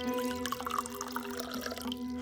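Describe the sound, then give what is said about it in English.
A drink being poured: a steady, bubbling trickle of liquid runs for about two seconds with small splashy drips, over a constant low hum and no talking. “Pour me another before you ask.”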